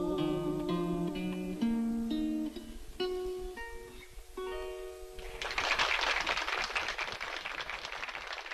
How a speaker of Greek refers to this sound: Ορίστε και το χειροκρότημα.